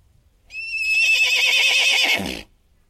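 A single loud horse whinny, starting high and shrill, then wavering and dropping into a rough, shuddering neigh before cutting off. Nothing else is heard around it.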